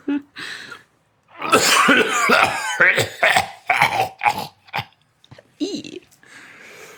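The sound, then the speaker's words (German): A man's deep, rattling, guttural cough erupts in a loud cluster of harsh hacks, followed by a few shorter wheezing coughs and a raspy throat-clearing fading at the end. “Ein Husten, der eher dämonisch als menschlich klingt.”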